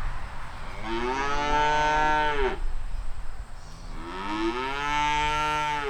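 Two long, loud moos from young cows on a farm in Monmouth, calling to be fed as the farmer walks past. Each is a drawn-out bellow with a falling pitch, separated by a brief pause, with low rumbling background noise.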